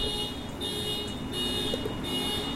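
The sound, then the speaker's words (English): A car alarm blares steadily, its piercing electronic tone holding over a low rumble of street noise, with no voices present. “Why am I walking towards a car alarm during a fucking show just to annoy my fucking audience?”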